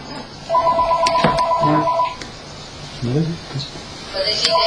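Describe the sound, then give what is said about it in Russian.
A telephone rings in repeated electronic bursts, a warbling tone that starts, pauses while a voice speaks briefly, then starts again near the end. “Возьми, возьми телефон.”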